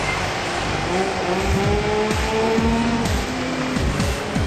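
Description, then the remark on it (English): A motorbike engine in the racing game PGR revs and shifts repeatedly, its pitch climbing and dropping in quick sawtooth cycles, while tires squeal steadily as the bike slides around a corner in the wet, chasing cars down. “So we slide them around the corner.”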